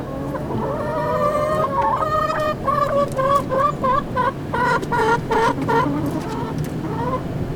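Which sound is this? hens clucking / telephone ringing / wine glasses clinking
hens clucking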